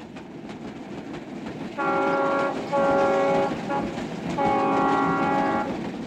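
A train rumbles steadily past while its horn sounds three loud, sustained blasts, the last one the longest, standing out clearly above the rolling noise of the cars. No one speaks.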